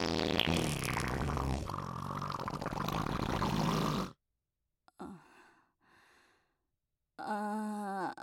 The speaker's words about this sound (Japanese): はいはい、お母さんおならしました。さっきの匂いもお母さんのすかしです。